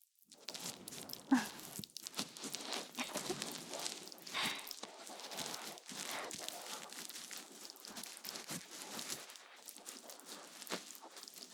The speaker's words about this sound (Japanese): 耳に直接泡を当てられた感触。結構いいでしょ？それとも、パチパチってして。びっくりしてるかしら。